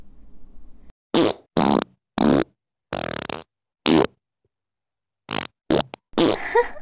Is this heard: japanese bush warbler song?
no